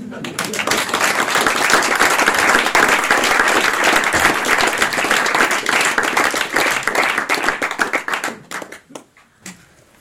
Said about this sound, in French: J'attends vos applaudissements.